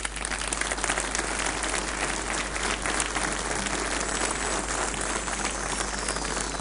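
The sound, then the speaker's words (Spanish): An audience at a technology industry event applauds MVPs, MSPs, Technical Rangers, Plus.net and user groups: a dense, even wash of many hands clapping at once that holds a constant level from start to finish, with no voices standing out. “Así que por favor, MVPs, MSPs, Technical Rangers, Plus.net, grupos de usuarios, por favor, ayudarme a dar un fuerte aplauso para todo el mundo.”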